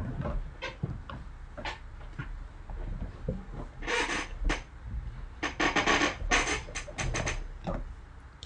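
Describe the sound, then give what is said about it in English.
A chair creaks and rustles as someone shifts their weight: scattered soft clicks and taps, then several longer scratchy, rasping rubs in short bursts, all fairly quiet with no talking. “I might hear a bit of squeaking on my chair as I rearrange myself just a little bit here.”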